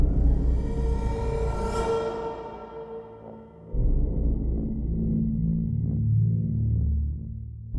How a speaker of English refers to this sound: He's breached elevator number 6, Controller Lyon said. A small sonic pulse is activating the lift.